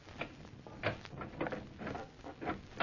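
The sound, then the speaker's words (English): A simple door lock being picked: a run of small, irregular metallic clicks, taps and scraping rattles, fairly quiet and steady over a few seconds, with no voices. “It was just a simple door lock.”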